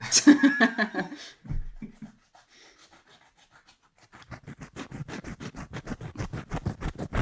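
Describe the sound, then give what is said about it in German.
Coarse scratching on a rough woven fabric of coconut fibre, recorded in a kitchen: a burst of rasping rubbing, a pause, then a steady run of quick, evenly spaced scrapes that grow slightly louder. “Es ist einfach nur so ein Gewebe. Ich weiß gar nicht mehr, woraus das Zeug ist. Ich glaube, Kokos.”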